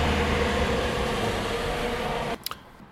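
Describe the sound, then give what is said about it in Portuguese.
A bus rumbles past with a loud, steady low roar that stops abruptly near the end, followed by two brief, high hissing bursts. “Pá, e pronto, agora está a passar aqui um autocarro.”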